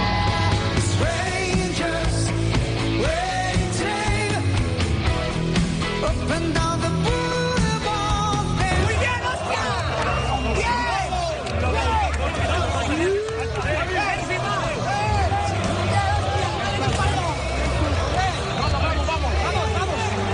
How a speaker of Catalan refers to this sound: Són els crits dels futbolistes i de l'afició de l'Espanyol a la Romareda celebrant la importantíssima victòria aconseguida per l'equip en el dia del debut a la banqueta del Manolo González.